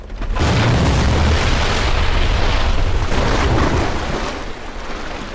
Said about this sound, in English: Above the jetty where the boat is moored, the car flies off the end of a timber pier and slowly nosedives into the water below, sending up a huge splash.